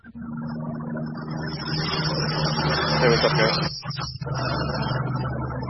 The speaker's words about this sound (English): I'm hearing some background noise there. Who's that? It was not I. There was a motorcycle passing by.